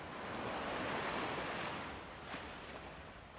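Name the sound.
ocean waves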